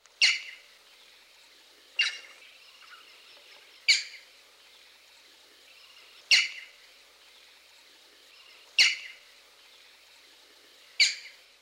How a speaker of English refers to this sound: Knowing this call, which is commonly given in flight, should alert you to this species' presence. Listen again to the call of the green-backed heron.